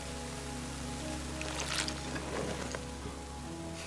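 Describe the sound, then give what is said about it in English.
Fermenting grapes bubble and fizz in a vat, a soft crackling patter that swells briefly in the middle, all over a steady low mechanical hum. “And you can feel when you push your hand across the air, across the fruit. You can really feel the heat coming off it, and it's all bubbling as well.”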